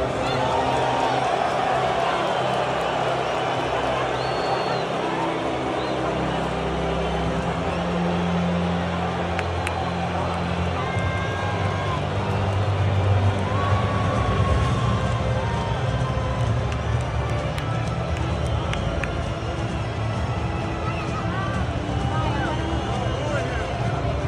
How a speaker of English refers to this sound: You can see again, as Donald Trump walks onto the field, there are boos. People in the crowd behind the camera even go, oh wow, they're booing him.